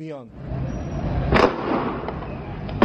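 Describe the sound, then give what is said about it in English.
Gunfire from security forces on motorcycles during street protests rings out in a few sharp, irregular cracks, one loud burst followed by fainter shots, over a steady noisy street rumble with brief voices at the start. “Security forces on motorcycles open fire.”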